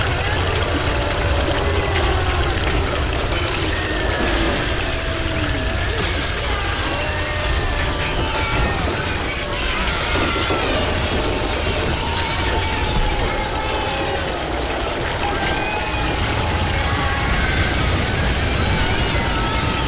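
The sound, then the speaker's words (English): A loud, continuous roar of rushing liquid, a raging river of urine surging, with indistinct wavering voices tangled in the churning noise throughout. “A raging river of piss sweeps away everyone and everything in its path.”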